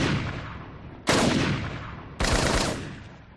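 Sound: rifle gunshots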